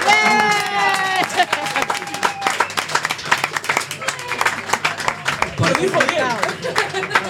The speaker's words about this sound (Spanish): A Tolare y un aplauso enorme, porque además lo voy a decir bien